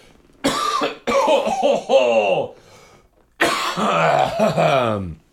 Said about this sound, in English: You're going to go first so that I can cough aggressively off mic.